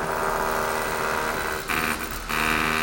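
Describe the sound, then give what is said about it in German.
Steady traffic rumbles along a street in Hong Kong near the badly damaged parliament building, a continuous wash of engine noise with a vehicle briefly swelling past near the end, with no one speaking. “Der Verkehr fließt und das stark beschädigte Parlamentsgebäude wird repariert.”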